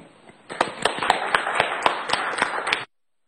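A short burst of applause from a small group at a committee meeting, dense clapping with a few sharper individual claps standing out, lasting a little over two seconds before stopping abruptly.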